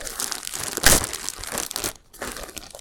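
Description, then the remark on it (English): A bag of little chickens crinkles continuously in dense, crackly rustles, with one sharp, louder crunch early on and a brief lull before the crinkling resumes. No one speaks. “Pour them, no, take the whole bag and pour it over my head.”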